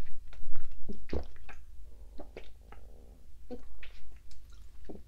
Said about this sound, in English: Did you hear my stomach? I don't know if that picked up. My stomach is reacting to all the water.